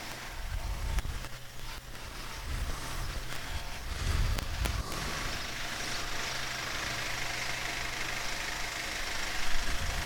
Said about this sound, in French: Non, ils laissent leur camion allumé comme ça, là, il n'y a personne.